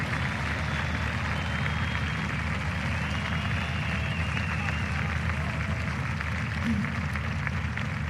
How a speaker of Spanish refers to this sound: Sí, aplauden. Aplaudan. Y aplaudan fuerte además.